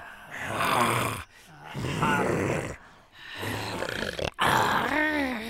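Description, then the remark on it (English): A voice imitates an animal growl from the throat in four raspy, rhythmic bursts separated by short breaks, fairly loud, each pulse rough and gravelly like panting snarls. “With growls and things, it's a ha, ha, ha, ha.”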